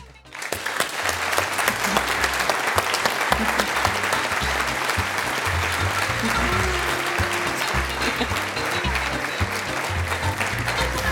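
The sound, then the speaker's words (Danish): Sustained audience applause after a speech praising Merete Pryds Helle's novel, a dense, steady wash of many hands clapping that stays loud and even for the whole stretch, with no voices standing out above it. “Der var mange, der klappede”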